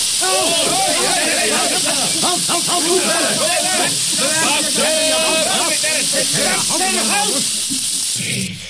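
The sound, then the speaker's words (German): Water sprays and gushes in a steady, loud hiss from two fire hoses that came apart at their coupling during a water test, running nearly the whole time, while voices talk and exclaim over it. “Das sind 2 blöde Schläuche. Gehen einfach abeinander.”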